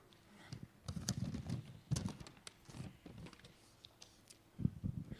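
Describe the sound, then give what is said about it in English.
Irregular rustling and crinkling as a piece of paper is pulled out and handled, with soft scattered crackles and taps over about five seconds and no talking. “I'm going to have to pull out a piece of paper, guys.”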